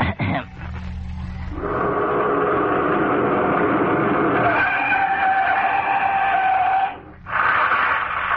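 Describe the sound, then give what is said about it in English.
A contestant in an amateur talent show vocally imitates a car skidding and crashing, producing a long, loud, sustained screeching whine with wavering tones, briefly breaking off before a final burst; no actual crash sound follows. “Next, I'll imitate a car crashing.”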